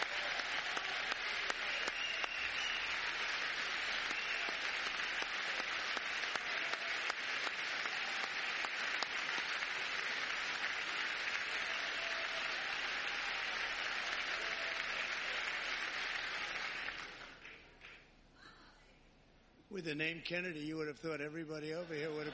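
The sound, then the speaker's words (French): Loud, dense applause from a crowd, following a mention of Health Secretary Robert F. Kennedy Jr., rolls on steadily for about seventeen seconds, then dies away into a brief lull before someone begins speaking. “Vous êtes un Kennedy, on aurait pu penser que tout le monde vous aurait applaudi de ce côté-ci, mais ils oublient rapidement.”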